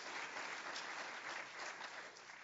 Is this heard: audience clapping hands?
yes